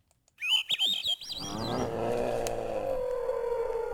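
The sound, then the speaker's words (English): A dusty gray bird with a black mask, perched on a tall brown stalk of dried cow parsnip on Kodiak Island, Alaska, gives a quick burst of squeaky, warbling calls, then falls silent as a steady rising engine-like hum swells and fills the rest. “Dusty gray bird with a black mask is perched on a tall brown stalk of dried cow parsnip on Kodiak Island, catching the attention of a young naturalist.”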